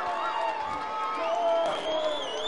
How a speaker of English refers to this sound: Crowd announced attendance of 21,049 tonight. Trying to cheer the Grizzlies to victory. Start to rise to their feet.